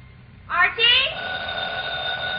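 A telephone rings with two quick, bright bursts, then a steady sustained electronic tone that carries on to the end over low background noise.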